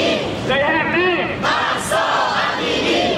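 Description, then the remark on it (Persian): Protesters in various countries chant slogans in support of Iranian protesters, including 'Woman, Life, Freedom' in Persian, English and Kurdish and the name Mahsa Amini; many voices rise and fall in loud, rhythmic shouts that fill the whole stretch with a dense roar. “شعارهای تظاهر کنندگان در کشورهای مختلف در حمایت از معترضان ایرانی.”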